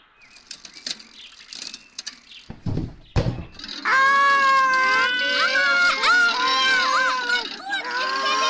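cat yowling in pain

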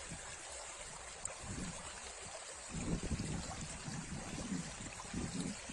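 waterfall flowing water

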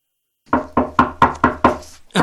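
knocking on a door

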